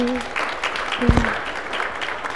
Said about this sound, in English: So can we give them a round of applause?